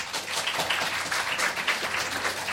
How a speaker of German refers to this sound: Also, wir brauchen jetzt einen Applaus. Einmal die Frage, wie lange hat das Snooker-Match denn nun gedauert? Ein Applaus.